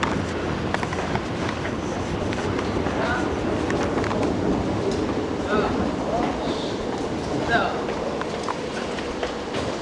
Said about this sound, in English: Through the gate. I hear a train down there.